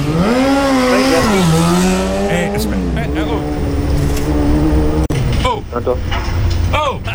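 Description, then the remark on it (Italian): A motorcycle engine roars loudly on a road while the bike is being tested, its pitch climbing and dipping, followed by harsh bursts like tires skidding and squealing toward the end. “Stavo provando la moto, come ti ho detto!”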